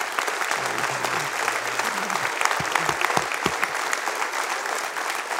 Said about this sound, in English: Let's give God applause for his goodness.